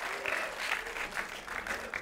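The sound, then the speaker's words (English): Steady audience applause during an applause break after a joke, a dense crackle of many hands clapping at a moderate level, with no voices standing out above it. “That's applause break on that one.”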